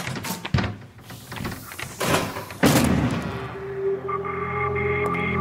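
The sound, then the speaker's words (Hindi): Heavy, forceful bangs as a door is being broken down, several loud thuds and crashes in irregular succession, followed by a sustained tonal hum as the pounding stops. “लगता है दरवाजा तोड़ना पैना है।”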